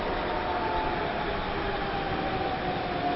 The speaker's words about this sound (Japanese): This is the Rapido Beta Limited Express bound for Kansai Airport. The next and final stop is Kansai Airport.